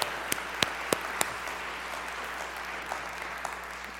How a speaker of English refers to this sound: And I just wanted to acknowledge the work that they've done for us and for Jesus. So if we could just give a clap of support for them